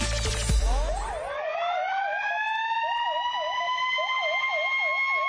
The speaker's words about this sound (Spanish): Las sirenas han sonado a mediodía en el edificio de Seguridad Ciudadana de Oviedo, en el Rubín. Sirenas en señal de duelo por la muerte del bombero Eloy Palacio en el descomunal incendio de la calle Uría.